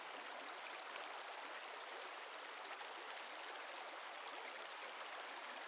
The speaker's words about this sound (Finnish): Voit ottaa hyvän asennon ja vain seurailla ohitse virtaavaa vettä.